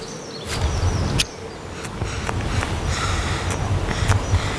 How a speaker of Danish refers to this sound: Det er bierne. Vepserne. Det er bierne. Det er bierne. Ikke vepser, bierne.